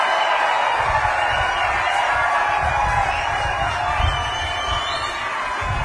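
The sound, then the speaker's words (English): Loud, sustained applause from a large audience, a dense steady wash of clapping with cheers and whoops mixed in, holding at an even level for the whole stretch with no speech over it. “It's a lot of applause.”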